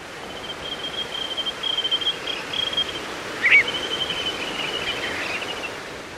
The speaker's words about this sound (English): Wandering tattlers pause along the Pacific coast in September, where among the boulders of a jetty, you can hear their ringing whistles.